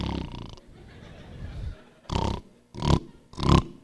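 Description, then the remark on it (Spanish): A man imitates snoring with three loud, rasping, snorting bursts in a steady rhythm, each lasting about half a second. A short burst of voice comes just before them. “Y a veces roncan hasta estereofónicamente.”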